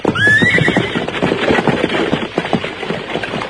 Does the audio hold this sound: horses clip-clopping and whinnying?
yes